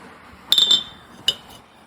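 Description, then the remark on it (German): Glasses clink together in a toast: a bright, ringing clink that lingers briefly, then a second shorter clink a moment later, clear with no talking. “Dafür lassen die ordentlich was springen. Prost.”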